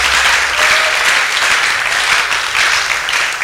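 An audience claps loudly and steadily, a dense wash of many hands that continues without a break for the full few seconds, with no clear voices standing out above it.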